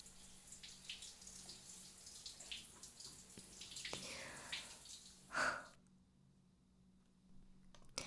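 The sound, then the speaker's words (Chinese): A shower sprays in a steady hiss of running water as someone rinses another person's arms, with the water temperature turned down slightly. Then a brief splash or clunk sounds just before the flow cuts off, leaving near silence with a few faint drips. “现在给我伸直右手，我把水温调低了一点，不会觉得冷吧？”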